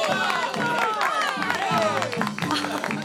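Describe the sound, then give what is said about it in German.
A large circus audience cheers and claps enthusiastically as the horse princess performs, with dense applause, whoops and excited shouting blending into a continuous roar of crowd noise that stays loud throughout. “Und als endlich die Pferdeprinzessin auftritt, will der Jubel kein Ende nehmen.”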